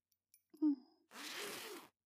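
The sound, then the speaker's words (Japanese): A short breathy vocal sound, then a quiet zipper pulled open in one steady rasping stroke lasting under a second. “じゃあチャック開けるね。”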